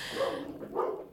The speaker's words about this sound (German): die Hunde, Entschuldigung. Der Snoopy, der bellt immer so rum